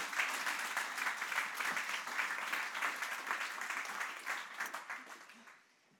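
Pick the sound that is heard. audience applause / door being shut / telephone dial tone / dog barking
audience applause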